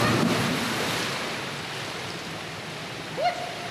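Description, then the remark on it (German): A girl jumps from a three-metre springboard and plunges feet-first, body stretched and arms at her sides, into pool water with a broad, rushing splash that slowly fades into churning, bubbling water, and a brief high-pitched squeak sounds near the end. “Gestreckt und mit beiden Füßen voran taucht sie ins Wasser.”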